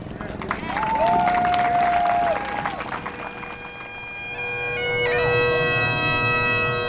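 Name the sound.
rally crowd cheering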